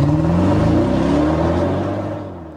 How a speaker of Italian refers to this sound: E ruggisce anche oggi il motore della nostra sigla.